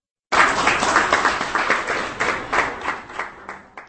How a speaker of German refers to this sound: Beifall ernteten die Redner, die eine Wanderausstellung eröffnet haben. Im Saal des Hauses der nationalen Minderheiten Prag wimmelte es von vorwiegend älteren Damen.